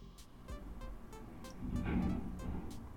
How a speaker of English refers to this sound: And then a massive moving truck outside went kerplummet.